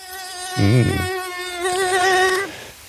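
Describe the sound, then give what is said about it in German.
A mosquito whines in a thin, high-pitched drone that wavers slightly in pitch, holding steady for about two and a half seconds before stopping, with a brief low rumble near the start. “In diesen Tagen ist hier in der Region wieder Hochsaison für die Mitarbeiter der CAPS, der Kommunalen Aktionsgemeinschaft zur Bekämpfung der Stechmücken.”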